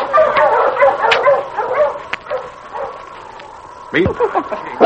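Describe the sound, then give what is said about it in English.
A dog yips and barks in a flurry of excited, whining calls as it runs back and forth along the edge of a ravine, then falls quieter before a sharp, fairly loud burst of barking near the end. “That dog don't want to go back with you. He keeps running back and forth along the edge of that ravine.”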